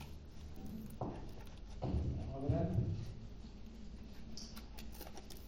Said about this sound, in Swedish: Så hittar jag mina anteckningar här. Ska vi se, 2 sekunder. Många papper här.